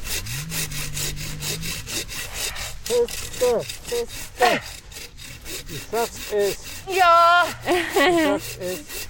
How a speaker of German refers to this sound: Und immer das ganze Sägeblatt benutzen.